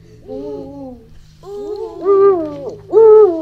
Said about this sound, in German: Und so klingt der Uhu. Ich höre, wie der seinen Namen sagt. Uhu.